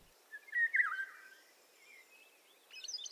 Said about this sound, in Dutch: En op de prachtige tonen van de wielenwaal sluit ik deze podcast af.